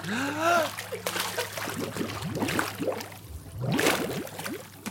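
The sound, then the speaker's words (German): A splash as a person's head plunges under water to test whether crying continues under water, followed by sloshing and bubbling, with voices talking and laughing over the watery noise. “Und jetzt schnell unter Wasser.”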